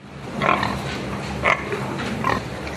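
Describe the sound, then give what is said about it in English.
Pigs grunt and oink on a pig farm in Missouri, three distinct snorting calls spaced about a second apart over a steady low rumble of barn background noise, moderately loud. “is a pig farmer based in Missouri.”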